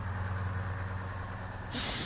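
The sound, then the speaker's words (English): A large bus engine rumbles low and steady, then a sharp, loud hiss of air brakes bursts out near the end as the bus comes to a stop. “Okay, wait for the bus.”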